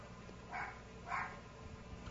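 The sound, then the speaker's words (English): Two faint dog barks, about half a second apart, from dogs barking in the background, over a quiet low background rumble, with no one speaking. “Can you all hear the dogs barking in the background?”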